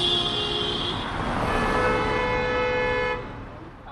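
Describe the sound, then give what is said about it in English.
Car horns blare in overlapping, sustained honks over a dense rumble of weekday rush-hour traffic, loud, with the honking fading out near the end. “During rush hour on a weekday, things can get a little backed up.”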